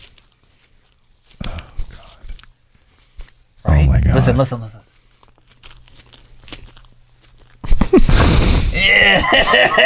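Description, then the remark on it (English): Squishy chewing of soft Peeps marshmallow candy by a man in several short bursts during a timed eating challenge, with people exclaiming and talking between and over the chewing. “It just, the sound of him chewing the peeps are so gross.”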